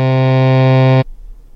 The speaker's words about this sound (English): Why, did I make you deaf? Nope. That's his buzzer, Granny. I got a buzzer she can't hear.